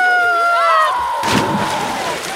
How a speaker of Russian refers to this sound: ну что ты испугалась? Просто кто-то решил спрыгнуть с тарзанки в воду и освежиться. По-моему, не просто. Кажется, он сорвался.